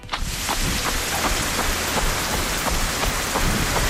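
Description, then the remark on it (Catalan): Steady, dense rain hisses throughout while quick, regular footfalls slap through it, like someone jogging on a wet surface as exercise. No voices. “Sembla que algú està corrent sota la pluja, no?”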